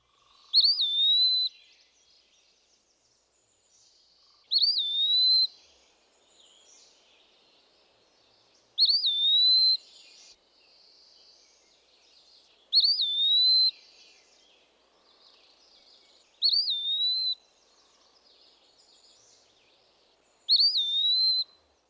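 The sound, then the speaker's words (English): An Eastern Wood Pewee sings a slow, clear whistled phrase of two or three syllables with a rising, slurred ending, repeated six times at regular intervals of about four seconds, with quiet pauses between. “The Eastern Wood Pewee gives a slow, plaintive whistle of two or three syllables.”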